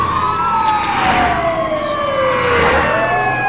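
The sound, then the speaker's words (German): The sirens of four fire engines wail loudly, their tones sweeping and overlapping as they approach and race past on a coastal road, pitch dropping as they pass, amid steady traffic rumble. No one speaks. “In diesem Moment hörten sie aus der Ferne mehrere Sirenen auf sich zukommen. Kurz darauf schossen 4 Feuerwehrwagen auf der Küstenstraße an ihnen vorbei.”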